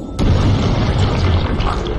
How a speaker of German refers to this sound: dann stopft Caleb seinen Körper voll mit Sprengladungen und zündet das dann per Fernzünder, aber er steht noch nah genug dran, dass er von der roten Soße voll geregnet wird.